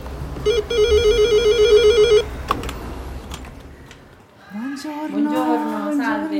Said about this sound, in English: When I was looking for kindergartens in Rome, I saw a sign that said Asilo Nido, so I rang a bell.